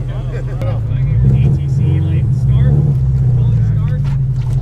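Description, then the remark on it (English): A new, stock 718 Boxster sports car's engine drones steadily from inside the cabin, a loud low rumble with a rising and falling pitch as it drives, while people talk over it. “we take a drive in a 718 Boxster.”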